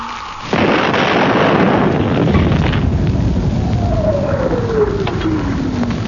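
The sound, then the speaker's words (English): A cannon fires with a sudden loud boom, followed by a long rolling rumble that slowly fades while a thin descending whistle trails off. No voices. “I will light that not a little fuse on the cannon.”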